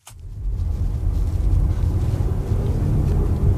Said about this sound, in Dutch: Misschien kan je het horen. Ik denk het wel. Je hoort een beetje dat tramgeluid, maar toch ook een verbrandingsmotor.